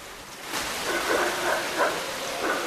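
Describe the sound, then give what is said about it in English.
Torrential rain pours steadily onto the surface of a pool in the Yucatan, a dense, continuous hiss and splatter, with a few faint, brief calls rising intermittently in the background. “In a torrential downpour, raindrops shatter the surface of a pool.”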